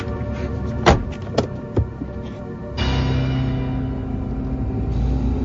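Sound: car door shutting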